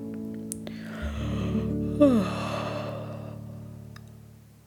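A long, drawn-out yawn from a single voice, voicing Oskar the sloth as he stretches his legs and arms before going to sleep, starting with a breathy inhale and sliding down in pitch into a sighing, fading exhale. No speech accompanies it.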